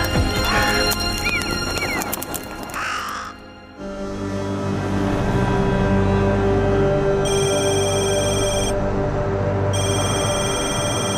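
A telephone rings twice at a police station in Nantes, bright repeated bursts separated by a short pause, heard over a steady low rumble after a messy opening of loud, scattered noises.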